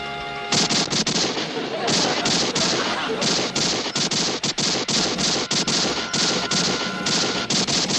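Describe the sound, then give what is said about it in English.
Rapid, loud bursts of gunfire crack again and again for several seconds, dense volleys of overlapping shots with brief gaps, fired at a speeding car whose engine roar runs underneath. “That's not hail, and it's not funny. They're shooting at us.”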